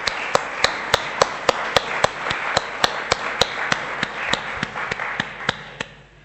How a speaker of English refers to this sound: So I think we'll give them a round of applause for all that they have done.